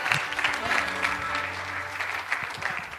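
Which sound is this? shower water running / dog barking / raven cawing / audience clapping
audience clapping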